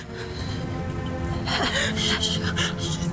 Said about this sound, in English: his breathing becomes more labored. His eyes become glassy, and his body begins to stiffen.